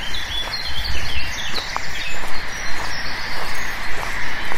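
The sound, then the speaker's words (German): A huge colony of thousands of black-headed gulls in a moorland landscape calls all at once, a dense, continuous wash of overlapping harsh cries with no single call standing out, steady and fairly loud throughout. “Das sind tausende Lachmöwen.”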